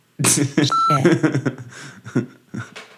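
censor bleep tone

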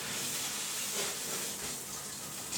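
shower water running

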